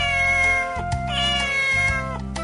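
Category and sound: animal, cat meowing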